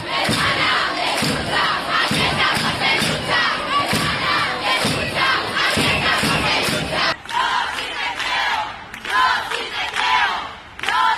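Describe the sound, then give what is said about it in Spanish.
A large street crowd at a protest with banners, in cities such as Madrid, Barcelona and Tarragona, shouts in rhythmic unison, chanting slogans loudly with a steady pulsing beat, then breaks into a more scattered roar of many voices. “Madrid, Barcelona, Tarragona llenaban sus calles con gritos y pancartas que dejaban claro que la manada somos nosotras.”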